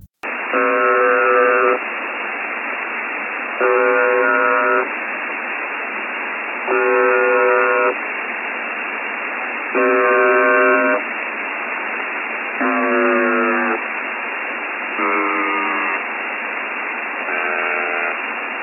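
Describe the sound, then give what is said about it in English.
Over steady shortwave radio hiss, a harsh buzzer signal sounds in seven roughly one-second bursts a few seconds apart. Its pitch is uneven, sometimes sliding or warbling, as the buzzer malfunctions. “So let me play a buzzer for failure for you right now.”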